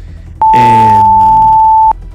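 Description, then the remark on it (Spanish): A loud SAE emergency alert tone issued for the commune of Vallenar, sector UDA, Avenida Costanera, sounds for about a second and a half: one steady, piercing pitch with a harsh, buzzy layer underneath that sags slightly before cutting off abruptly. “Ya, a esta hora, hace escasos minutos ha aparecido una alarma SAE, atención. Alarma SAE para la comuna de Vallenar.”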